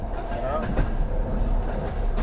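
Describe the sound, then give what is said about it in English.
A steady, continuous rumble of a train rolling along the rails, fairly loud and unbroken throughout, with faint indistinct voices mixed underneath. “Like the sound of the train”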